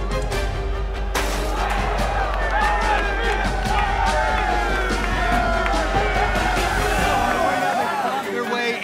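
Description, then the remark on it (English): A loud, dense crowd roars and cheers continuously at a wrestling melee held on a farm, with overlapping shouts and whoops rising from a constant babble of many voices, enveloping throughout. “Crowd busted open, and this right there behind us is the melee.”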